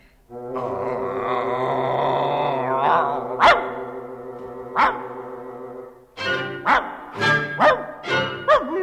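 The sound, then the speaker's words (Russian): A dog named Avva barks loudly: a couple of sharp barks over a sustained droning tone, then a quick run of five or six barks in a row. “Это лает Авва, он добрый пес, но большой драчун.”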